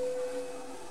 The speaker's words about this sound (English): The large plane flies through the air.